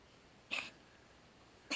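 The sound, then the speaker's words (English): Two short, sharp sneezes from an old female pet, about a second apart, each a quick breathy burst against a quiet, faintly hissing background with no talking. “Whoa, sneeze-erific.”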